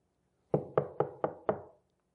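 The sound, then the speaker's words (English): Five firm knocks on the wooden door of a house in a quick, steady rhythm, each with a short hollow ring, then silence. Fairly loud, with no voices. “And we knock on that very first door, and nobody comes to it.”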